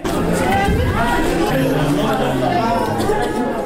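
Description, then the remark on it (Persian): Sick children with chest and respiratory illnesses moaning and crying amid a steady hubbub of overlapping voices in the Indira Gandhi children's hospital, the wails rising and falling in pitch throughout, loud and continuous with no pauses. “صدای ناله و فریاد کودکان بیمار در شفاخانه اندرا گاندی است که به بیماری سینه و بغل و مجرای تنفسی مبتلا شدند.”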